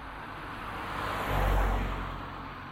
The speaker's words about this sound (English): There's a car, wait.